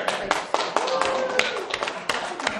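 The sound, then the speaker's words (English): A church meeting audience claps steadily with sharp, overlapping hand claps, while scattered voices cheer and call out beneath the applause, as the State of the Church address begins. “I want y'all to do like you do in Congress. Everybody cheer for me, man.”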